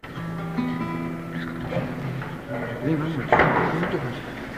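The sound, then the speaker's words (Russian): A single wooden thump of a small chair being set down on a hard stage floor at the start of a song concert, cutting through murmuring voices and hall noise partway through. “надо стульчик поставить нам для качества почтового ящика.”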